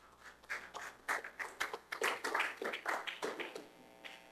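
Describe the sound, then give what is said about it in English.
A church audience breaks into scattered hand clapping in praise of the Lord, a dense run of sharp, overlapping claps at moderate loudness that swells and thins irregularly over a few seconds, with no voices. “Give Lord a hand clap of praise.”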